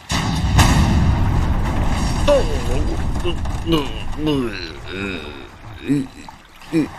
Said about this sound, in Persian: دیدی چی شد؟ توپشون یهو منفجر شد.